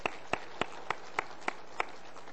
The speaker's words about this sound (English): Yeah, you can clap for the Lord. Let's clap for the Lord.